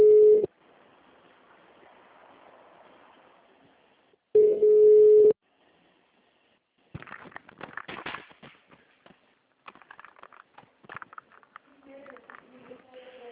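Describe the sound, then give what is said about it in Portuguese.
Telephone tones while a call is being transferred: two loud, steady mid-pitched beeps separated by a few seconds of low line hiss, followed by crackly, clicking line noise and scraps of voices. “Sim, só um minutinho que eu vou só transferir o telefone, tá?”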